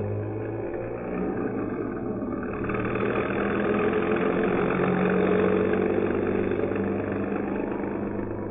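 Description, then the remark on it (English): A bus engine drones steadily as the bus drives at night through stormy, inclement weather along Cleveland Avenue, with a low rumbling hum and broad road noise that swells slightly after the first few seconds and then holds constant, with no voices. “Then it proceeds through the stormy, inclement weather along Cleveland Avenue.”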